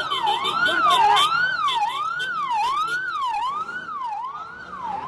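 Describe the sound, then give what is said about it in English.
Ambulance sirens wail loudly along Beirut's waterfront in Lebanon as ambulances rush away victims after a bomb explosion, their pitch sweeping up and down in a steady repeating cycle over faint street noise. “The explosion struck along Beirut's waterfront, where ambulances rushed away victims.”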